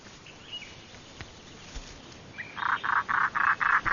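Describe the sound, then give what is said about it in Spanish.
A European roller, a crow-sized bird, gives a rapid series of about seven harsh, rasping calls in a steady rhythm, fairly loud, after a quiet stretch of faint outdoor ambience, in coastal forest in Latvia, its northernmost breeding ground. “Cada primavera las carracas del tamaño de cuervos regresan del este de África a Letonia, su lugar de reproducción más al norte.”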